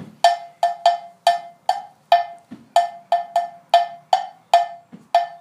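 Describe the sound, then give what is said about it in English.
A metal bell plays the main bell part of Adawa, a piece from the Shenta tribe, struck over and over in a repeating, syncopated pattern, each bright, ringing hit fading quickly, with a few soft low thuds now and then underneath. “This is our main bell part.”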